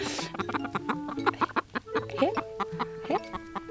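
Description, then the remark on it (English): Hens, including a spangled hen, cluck and chatter in a busy hen yard, with short repeated clucks and a few rising calls overlapping one another, moderately loud with no one speaking. “This one is, this is a spangled hen, but see how she's packed, you know.”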